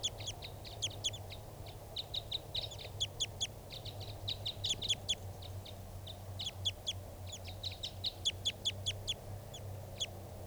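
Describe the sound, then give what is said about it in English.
A male-female pair of wild birds perched low in a small pine tree call back and forth in rapid bursts of sharp, high chirping notes, mostly the male calling and the female responding, fairly loud, over a steady low background hum. “Mostly the male calling here. Females are responding.”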